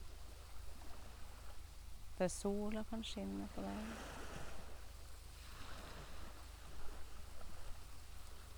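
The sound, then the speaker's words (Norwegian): Continuous wash of ocean waves with wind rushing over the microphone, a steady mid-level roar that swells gently at times, while a voice speaks a short phrase early on. “Samtidig som du hører lyden av bølgene. Vind.”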